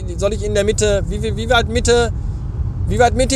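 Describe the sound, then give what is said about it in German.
A steady low rumble of road and engine noise from inside a car moving through busy streets full of cars and people, running continuously beneath a person talking loudly and animatedly. “Dementsprechend voll sind die Straßen und nicht nur voll mit Autos und Menschen, sondern auch voll mit Scheißmenschen und Arschlochmenschen und gestörten, bescheuerten Autofahrern.”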